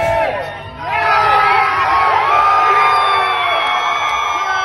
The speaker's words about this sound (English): And it didn't stop. I mean, that was like 15 minutes of just cheering and people slapping, giving high-fives. Everybody hugging, everybody high-fiving. It was like you won the World Series.